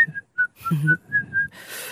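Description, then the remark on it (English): A person whistles a short, wavering tune in a run of quick notes, clear, with breathy gaps between phrases and a faint hiss at the end. “She can whistle really well.”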